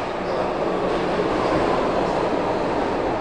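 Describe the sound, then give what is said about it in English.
A commuter train rumbles steadily through the PATCO train station at 8th and Market, a dense, continuous roar of wheels and machinery that stays loud for the whole stretch, with no voices. “We retraced his long journey, starting at the Patco train station at 8th and Market.”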